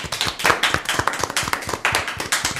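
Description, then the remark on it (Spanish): A burst of applause from a small studio audience in tribute to Chus Lampreave, many hands clapping in a quick, uneven patter that stays loud for a few seconds, with no talking over it. “Un aplauso.”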